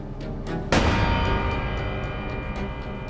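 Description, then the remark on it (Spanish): A single loud gunshot, a man shooting his wife with a stolen gun, cracks out sharply, then rings and fades slowly over a steady, low background bed, with no voices. “Luego mató a su esposa con un solo disparo”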